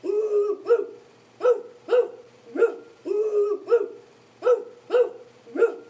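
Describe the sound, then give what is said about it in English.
A voice imitates an animal growling, the Sekomko growling back at a lion in a story, a steady series of about eight gruff, bark-like bursts, a few drawn out longer, repeating in a rough rhythm with no other talk. “The Sekomko growled back at the lion.”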